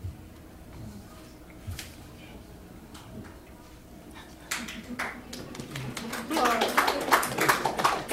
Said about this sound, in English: So awkward with the clapping.